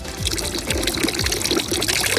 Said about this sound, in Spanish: El sonido de agua, sí. El sonido de agua es el sonido de la fuente que hay en la plaza que hay enfrente de la Basílica de Santa María la Mayor, que es donde estoy.